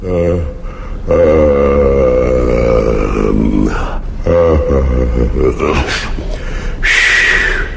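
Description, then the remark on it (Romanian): A voice acts out a giant's big, drawn-out yawn as he wakes in the morning, a long low groaning tone that rises and falls over several seconds, followed by grunts and a sharp breathy gasp. “A doua zi de dimineață, când uriașul se trezi, căscă odată și...”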